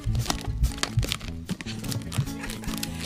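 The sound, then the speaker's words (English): Rubbery squeaking and crinkling as a balloon is twisted into a balloon animal at radio station WMFO, with a steady run of stretching squeals and sharp squeaky bursts, fairly loud, with no talking. “It's a balloon. It's a balloon animal.”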